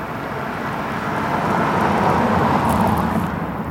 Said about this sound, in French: De rares voitures viennent troubler la quiétude des lieux et nous rappellent de plein fouet que la civilisation existe toujours.